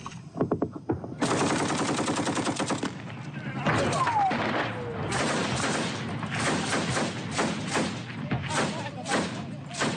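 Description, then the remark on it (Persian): An exchange of gunfire on Tuesday between militiamen loyal to the Iraqi government and the Islamic State group near Ramadi, Iraq, in amateur video: long, loud bursts of rapid machine-gun fire. The bursts run almost continuously, broken by separate heavy shots and thuds, with faint voices under the shooting. “ویدیوی غیر حرفه‌ای شبه نظامیان وفادار به حکومت عراق را روز سه‌شنبه در حال تبادله آتش با گروه دولت اسلامی در نزدیکی رمادی به نمایش گذاشت.”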